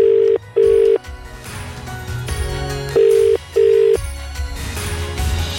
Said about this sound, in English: The phone's ringing.